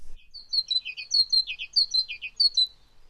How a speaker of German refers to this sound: Oh, das war eine Kohlmeise.